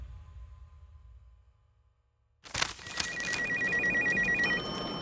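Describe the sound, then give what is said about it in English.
A low, quiet hum gives way to a sudden burst of noise, then Joe Tsai's phone rings with a rapid, high-pitched warbling trill that holds steady for about two seconds over a busy background, in the Hong Kong offices of Investor AB in 1999. “Within the sleek Hong Kong offices of Investor AB, Joe Tsai's phone buzzed.”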